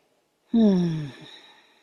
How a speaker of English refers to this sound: Waves after waves, life through the nostrils. Why don't I do it more? Of course, more correctly, why don't I know it this way more? I take deep, full breaths, deep breathing.